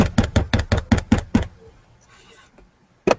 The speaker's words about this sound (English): Yeah. You're tapping. Oh, it's going to be a tapping war. Just tap. He's using Morse code. I didn't realize. You hear that?